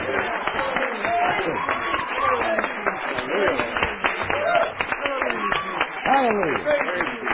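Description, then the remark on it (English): A crowd at a religious gathering cheers and claps for the Lord, dense rapid handclaps mixed with loud overlapping shouts and whoops that rise and fall, sustained steadily for several seconds. “Oh, give the Lord a cheer.”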